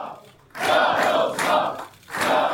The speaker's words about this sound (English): There were chants of, "We will win," in the crowd.